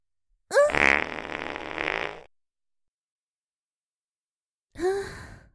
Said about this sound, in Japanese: いかがですか？私のおなら。これもまた女性の不浄なる部分。あなた様の愛すべきとびきりの悪臭なのですよ。私のおなら、非常に匂いますでしょう。